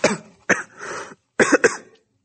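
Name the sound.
coughing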